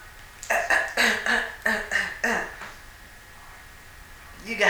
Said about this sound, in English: It was like a 5-second pause. And then you started coughing. Exactly. I started coughing after the 5-second pause.